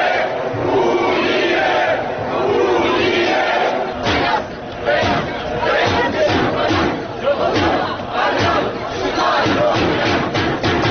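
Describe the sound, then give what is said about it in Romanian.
A large crowd of about 6,000 at a unionist march in central Chișinău, marching from the Opera and Ballet Theatre square to the Railway Station square, chants slogans such as "Basarabia e România" and "Unirea" in loud, rhythmic unison, voices rising in repeated bursts over a steady roar of many people. “Participanții au mărșăluit din scoarul Teatrului de Operă și Balet până la scoarul Gării Feroviare, scandând lozinci precum Basarabea e România și Unirea.”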